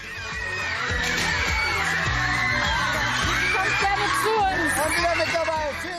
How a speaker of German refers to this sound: Wer in diesem Jahr die beste Klasse Deutschlands verfolgt hat, weiß, von wem diese Jubelschreie sind.